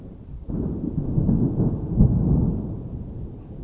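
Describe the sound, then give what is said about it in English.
Deep rolling thunder rumbles continuously overhead above a villa with a swimming pool, under a very dark blue sky with a light wind, a low sustained roar that swells and surges for several seconds with no voices. “The thunder is rolling above us.”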